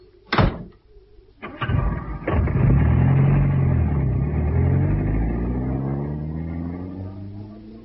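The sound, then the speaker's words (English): A car door slams shut, followed by a couple of sharp clunks, then an engine roars to life and revs loudly, its steady drone fading slightly as the car pulls away. “The car's over there. Come on.”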